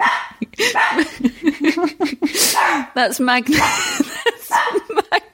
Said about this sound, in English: That's Magnus. Hang on. This is Magnus the dog, everybody.